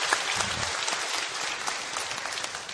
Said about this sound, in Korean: 우리 찬양대의 귀한 찬양, 또 여러분의 귀한 예배와 섬김을 통하여서 우리 영광 받으신 우리 하나님 앞에 감사와 영광의 박수 다시 한번 올려드립니다.